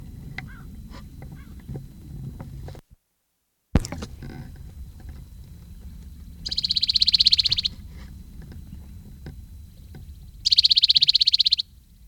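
Two male birds trade calls, one in a cove and one below a rim: a high, rapid buzzing trill lasting about a second, answered a few seconds later by a matching trill, both loud over a steady low rumble.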